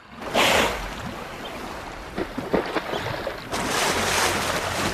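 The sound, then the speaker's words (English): A beachmaster elephant seal bull lets out a heavy, breathy snort at a newcomer male, followed by a few shorter puffing huffs, all over a steady wash of surf and wind. No one speaks. “The beachmaster eyes up the newcomer and snorts.”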